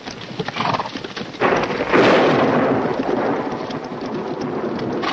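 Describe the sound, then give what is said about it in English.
A loud crack of thunder from leaden storm clouds with forked lightning breaks in around two seconds and rolls on through steady rain, with horse hooves clopping as dismounted soldiers walk their horses, and no one speaking. “From the leaden storm clouds behind them, forked bolts of lightning reach toward the valley.”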